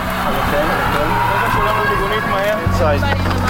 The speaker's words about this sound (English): 6:30 a.m., we're in our synagogue praying, and sirens go off and they're going on.